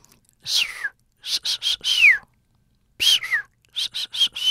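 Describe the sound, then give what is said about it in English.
A person imitates a dolphin's signature whistle with breathy, squeaky chirps and gliding high tones, delivered in two short bursts of rapid notes separated by a brief pause. “But what they do know is that each dolphin seems to have its own kind of signature whistle.”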